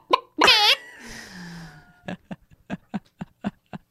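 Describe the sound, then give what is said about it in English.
A person imitates a chicken: a loud, shrill squawk with wavering harmonics, a trailing low tone, then a run of about eight short, clipped clucks in an uneven rhythm. “Do you know that I can do a chicken noise? Please do a chicken noise.”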